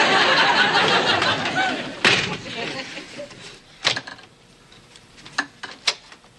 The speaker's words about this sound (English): Why did you slam the door in our faces?